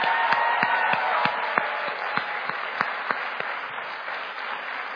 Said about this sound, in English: so we should clap